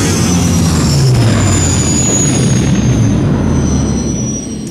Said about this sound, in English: The giant engines of the spacecraft begin to whine, kicking up large clouds of dust.